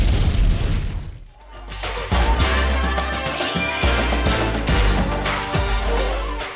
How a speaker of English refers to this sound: do another explosion right here.